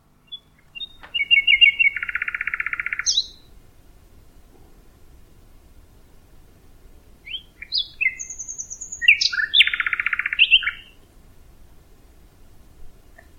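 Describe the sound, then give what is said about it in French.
A songbird sings two elaborate phrases at night, each with rapid buzzy trills and sharp whistled notes, loud against a quiet background with a faint low hiss between phrases. “De jour, son chant est masqué en partie par les autres chanteurs, merles, grives, pinsons, etc.”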